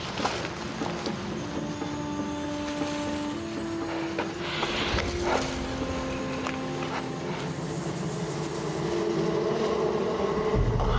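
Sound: buzzing of bees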